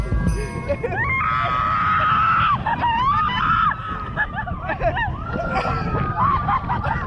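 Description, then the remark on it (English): A woman screams in long, wavering, high-pitched wails on a kid's roller coaster in California, several in a row, over a steady low mechanical rumble, with other voices faintly mixed in. “This is her on a fucking kid's roller coaster.”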